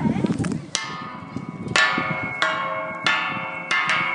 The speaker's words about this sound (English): And we're going to show you a church bell sound on metal bars.